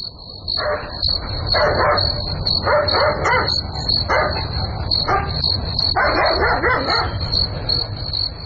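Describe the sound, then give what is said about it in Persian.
A dog barks repeatedly in short bursts in the middle of the night, with a steady high-pitched insect or cricket-like drone and low background rumble throughout. “چیز معلوم نمیشه، نمیفهم که سگ چرا میجفه، حتما کرام گپ خو است.”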